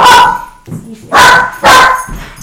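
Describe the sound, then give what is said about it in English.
A pet dog barks loudly three times in quick succession, each sharp bark separated by a brief pause, with no talking. “My dog hates Nadine Baggett.”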